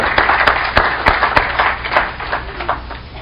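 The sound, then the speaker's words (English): A church audience applauds a group of girls who have just sung, many hands clapping steadily together in a dense, fairly loud wash with a few sharper claps standing out, continuing throughout without any talking. “Let's give them another hand.”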